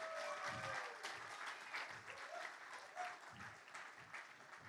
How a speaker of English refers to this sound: So let's give another round of applause to our mothers in the audience today.